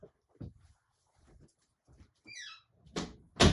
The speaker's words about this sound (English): I had to shut my door.